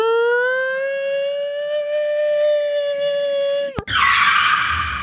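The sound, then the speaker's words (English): A car speeding down a pitch-black road screeches to a halt: tyres squeal loudly and steadily for nearly four seconds, a sustained squealing tone that ends abruptly in a sharp jolt, followed by a burst of harsh, hissing noise. “this bloody car comes tanking down the road, and we have to dive out at way. And then it screeches to an halt”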